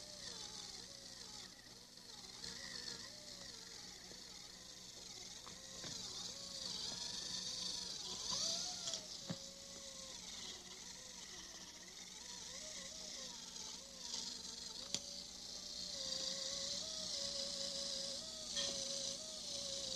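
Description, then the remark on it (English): A dental rubber cup polishing handpiece whirs steadily on the teeth for the whole stretch, its motor pitch wavering up and down as it presses and eases, over a constant hiss of suction. “Sometimes people say that the rubber cup tickles their teeth.”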